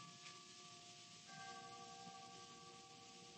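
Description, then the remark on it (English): A hall clock chimes softly, striking the three-quarter hour, its sustained bell tones layering and ringing out over a low background hum, with no voices present. “Only the chimes of the hall clock. It's striking the three-quarter hour.”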